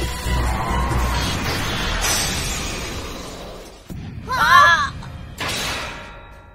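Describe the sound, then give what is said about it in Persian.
A spinning top bursts apart mid-battle as Kinetic Satan wins by burst finish: a sharp metallic crack and ringing clatter of scattering pieces, loud, followed by another crashing burst over steady crowd-like noise. “کنتیک ساتان با پایان انفجاری پیروز میشه.”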